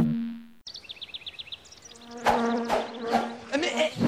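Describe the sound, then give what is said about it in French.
A bee buzzes in a steady drone, then quick chirping calls and louder, busier sounds crowd in while the low hum carries on underneath. “Il y a une abeille.”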